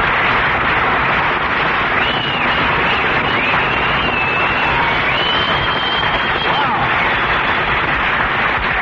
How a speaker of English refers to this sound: Well, listen to that, Mary. You got, you got more applause than I did.